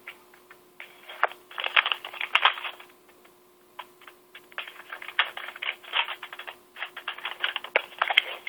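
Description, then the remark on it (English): Crisp crackling and rustling of a printed paper receipt from a furnace repair being unfolded, coming in several dense bursts with brief pauses between them, with no one talking. “Let me read off the receipt. Hold on a sec. I got to open up this piece of paper.”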